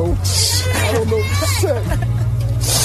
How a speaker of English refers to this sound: He thought he was getting set to get on his bus for the drive home, but instead found students waiting for him outside the school to cheer him on and thank him for his work.